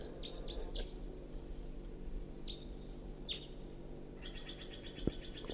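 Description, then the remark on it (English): A wild bird perched in a tree above a net sings at 6:01 AM: a few short, high chirps spaced apart, then a quick repeated trill, fairly soft over a steady low background rumble with no talking. “It's perched in the tree above the net now, singing.”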